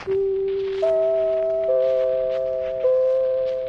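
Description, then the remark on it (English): NBC's famous fourth chime, which alerted everyone on the network and all correspondents: four bell-like tones struck one after another at a slow, even pace, each ringing on and overlapping the next, with a faint background hiss and no voices. “That's NBC's famous fourth chime. It alerted everyone on the network and all of the correspondents.”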